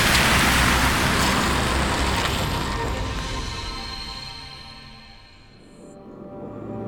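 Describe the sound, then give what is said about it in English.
An old Ford car's engine rumbles, then steadily fades as the car putters off, its low motor sound growing fainter against background road noise. “Giving a little wave, Brooke stepped onto the curb, and the old Ford puttered away.”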